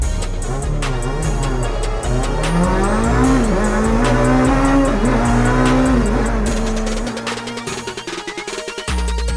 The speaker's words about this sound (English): Went from a four-door luxury car to a muscle car. Hear the cars roar when they start.